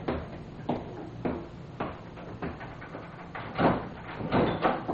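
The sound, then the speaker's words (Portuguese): A door is handled and opened to answer a visitor, with a series of wooden thumps and clunks at irregular intervals, followed by a brief rattling scrape; no one speaks. “Deixe-me passar, eu vou atender a porta.”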